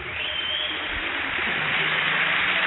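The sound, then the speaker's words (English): A studio audience on The Net Live applauds in a dense, steady wash of clapping that holds at an even loudness for a few seconds, with no single claps standing out and no talking over it, then cuts off abruptly as the applause sign stops. “As soon as that applause sign stops, they're done.”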